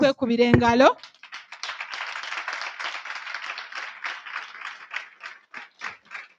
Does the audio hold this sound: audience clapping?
yes